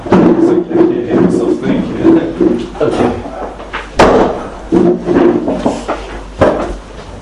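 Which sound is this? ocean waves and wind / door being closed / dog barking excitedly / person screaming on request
door being closed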